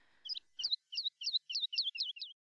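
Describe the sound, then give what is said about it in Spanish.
A small bird chirps a quick run of about eight bright, high notes, evenly spaced, with nothing else heard around them. “Un pajarito amigo me ayuda a alimentarte.”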